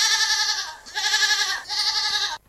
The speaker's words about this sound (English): We're now off to see an animal renowned for its escapology skills, the goat.